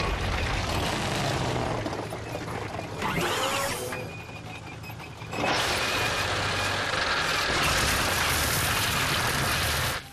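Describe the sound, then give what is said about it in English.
Loud, continuous mechanical drilling, a harsh grinding roar that runs the whole time, shifts briefly in tone midway, then comes back stronger and steady with no voices. “You always get to drill!”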